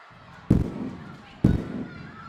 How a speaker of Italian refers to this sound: Petardi? Di prima mattina? A San Carlos? Beh, Natale e Capodanno sono già passati, ma magari qualcuno ha ancora voglia di festeggiare. Alcuni bambini alzano lo sguardo incuriositi da quel suono.